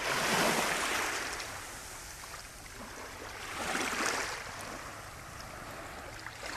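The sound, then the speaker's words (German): Gentle waves wash onto the empty sandy beach of Calamurtas in soft, rolling surges, swelling near the start and again midway before receding, with a steady hiss of surf and no voices. “Jene Wellen, die heute auf den leeren Strand von Calamurtas schwappen.”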